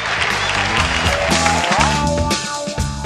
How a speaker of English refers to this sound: Then that's where you cue the cheering.